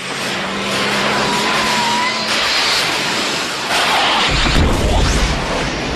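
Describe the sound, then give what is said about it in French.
A loud, airy engine roar sweeps in and hovers as a flying car descends onto the parking lot of a Lidl supermarket in Plébin in 2075, on a hot day, then a deep rumble swells as it settles down to land. No voices. “Soudain, une voiture vole, se gare sur le parking.”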